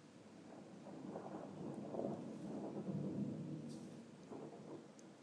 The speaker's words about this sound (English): We never get thunder in Scotland. Well, we hardly ever get thunder in Scotland. And now, it looks like the rain's calming down, which is crap. Come on. I want a decent thunder. I want a decent... thunderclap. Looks like the rain's calmed down.